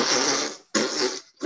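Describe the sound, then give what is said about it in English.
A voice imitates a fart with three loud, sputtering raspberry bursts, each breaking off briefly before the next, with no other sounds. “Fart noise forever.”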